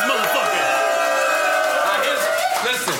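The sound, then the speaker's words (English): A dense, steady wash of crowd noise with many overlapping voices shouting and cheering, loud and continuous throughout, like a packed audience roaring together. “Let's make some noise.”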